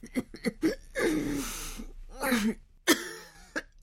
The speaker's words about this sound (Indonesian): Dari ruangan yang gelap, terdengar suara napas yang sesak, diiringi oleh batuk yang kering.